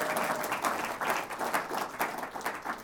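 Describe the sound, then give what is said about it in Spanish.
A church audience applauds for God and for those who attended all week, many hands clapping at once in a dense, continuous patter with slight swells in loudness and no voices standing out. “Pero también un fuerte aplauso para Dios y para todos ustedes que han estado toda esta semana aquí, que hicieron un gran esfuerzo.”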